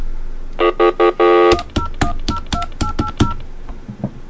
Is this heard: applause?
no